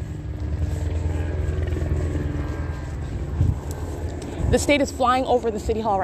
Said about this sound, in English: helicopter flying over the City Hall